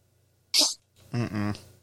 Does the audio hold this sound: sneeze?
yes